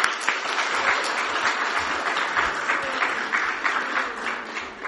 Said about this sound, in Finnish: Annetaan aplodit veljet. Kiitos.